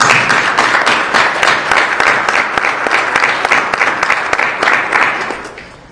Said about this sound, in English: Well, you deserve a round of applause.